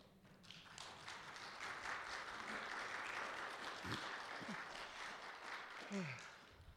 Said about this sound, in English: The guy clapping your hands back there in the brown.